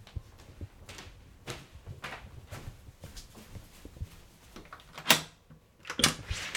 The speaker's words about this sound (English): Ah, that was the door.